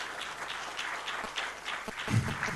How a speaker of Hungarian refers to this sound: Úgyhogy egy kis tapsot küldjünk neki. Köszönjük.